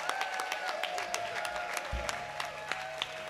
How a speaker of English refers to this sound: Big round of applause for the pesky Jay Nixon guys.